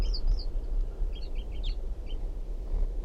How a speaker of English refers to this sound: wild bird here.